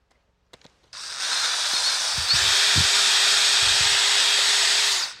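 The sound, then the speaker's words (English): A few faint clicks, then a loud, steady power drill whirs continuously for about four seconds as it drills a hole in a piece of wood, with a harsh, hissy buzz and a low thudding underneath, stopping abruptly. No talking. “So here I have a piece of wood, and I want to drill a hole in it.”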